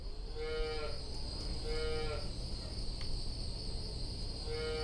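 Cows moo three times in a row, long droning calls spaced a second or so apart, over a steady background of outdoor ambience with a faint insect-like buzz and no talking; cows at Wanadale Farms being brought in for milking.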